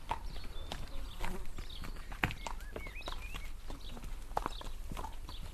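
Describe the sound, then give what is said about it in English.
Hooves of the horses of a horse-drawn cart clip-clop at a steady walking pace with sharp knocks, while birds chirp intermittently in the background of an outdoor scene. “If you needed a delivery, well, then you would listen for the cart that would be coming with its horses, you know, and you'd know the kind of sound that you'd be listening for.”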